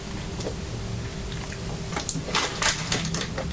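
Crisps and fresh, very crusty sandwich bread being crunched at lunch, with irregular, sharp, crackly bursts that grow louder and more frequent in the second half over a low steady hum.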